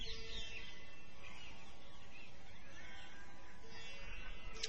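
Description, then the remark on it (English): Birds chirping and calling in a busy outdoor scene, their bright twitters layered over steady low-end noise, joyful voices of local Brijbasi people in the distance and an approaching motor rickshaw, moderately loud throughout. “The birds,”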